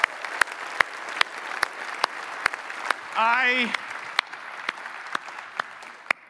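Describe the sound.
A crowd applauds steadily for several seconds, dense clapping with a few sharper claps standing out, and a brief voice rises over it midway through.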